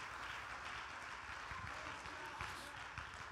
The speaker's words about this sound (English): Anybody happy about that today? Clap your hands and give him some praise for his greatness.